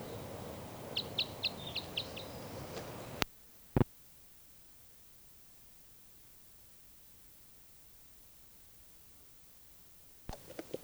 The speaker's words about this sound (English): Recording now, I hear that bird tooping over here somewhere.